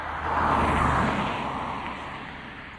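A car passes by, its broad rushing whoosh swelling over the first second and then slowly fading away. No one speaks.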